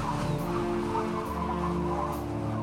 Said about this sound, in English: Listen carefully to the sounds and be ready to say what you can hear. There are big waves crashing against our ship. And a wild, whistling wind.